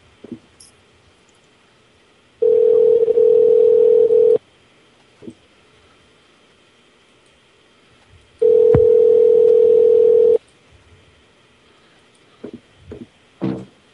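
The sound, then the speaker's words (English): Electronic chat notification beeping: two long, steady, low-pitched tones, each lasting about two seconds, loud and separated by a few seconds of quiet with a few faint clicks. “Somebody needs to mute their thing because I hear the beeping of the chat.”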